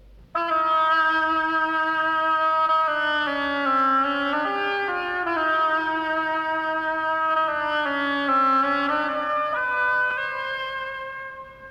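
A melancholy oboe plays the theme of the ill-fated duck in the tale of Peter and the wolf, a slow, mournful melody of sustained, reedy notes that glide gently between pitches in the mid register for about eleven seconds.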